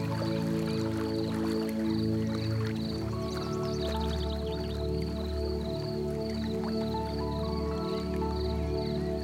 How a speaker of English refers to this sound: You listen to the sound of the trickling stream as the sun sparkles on the surface of the water. And the sound of trickling water fascinates you and brings your awareness to the present moment.